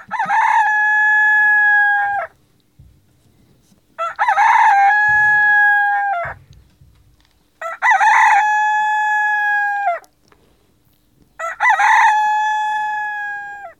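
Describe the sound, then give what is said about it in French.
A rooster perched on the door of a courtyard crows four times in a steady series, each loud, drawn-out call lasting about two seconds with short pauses between, with no other sounds around it. “Sur la porte de laquelle était perché le coq, qui criait du haut de sa tête.”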